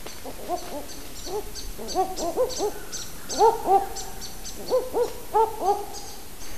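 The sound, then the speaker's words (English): A male and a female owl call back and forth in an excited duet after being disturbed in their territory, short rising hoots repeated in quick bursts and overlapping, the male lower-pitched and the female higher and faster, with faint bird chatter and background noise underneath. “The second clip is of a pair of owls giving their characteristic excited duetting calls when they're disturbed in their territory.”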